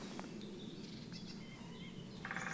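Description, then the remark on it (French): A black woodpecker's perched call, one of its two call types, rings out near the end, clear notes rising over a soft woodland background of bird chirps and insect buzz, with no one speaking. “C'est le pic noir. Il a deux types de chants. Le chant en vol et le chant posé.”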